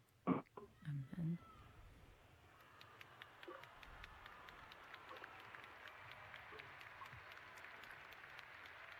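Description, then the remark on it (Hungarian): Sustained applause from a large crowd of pilgrims in the square, thanking the Holy Father for his blessing and his words, steady, with a few brief louder sounds near the start before the clapping settles into an even wash. “És a téren jelenlévő zarándokok pedig tapsal köszönik meg a Szent Atya áldását és az ő szavait.”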